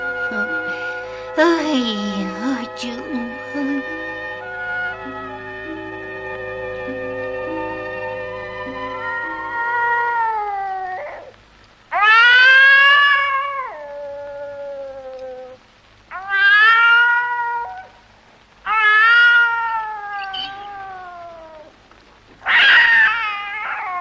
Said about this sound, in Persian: گوش کن پیشی جون، بیوفایی نکن. اون یه گربه خوبیه، میخواد باهات عروسی کنه.